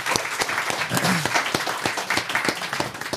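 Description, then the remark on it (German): An audience applauds steadily, many hands clapping in a dense, crackling wash with a few sharper individual claps standing out, sustained at a fairly even loudness throughout. “Applaus für dich.”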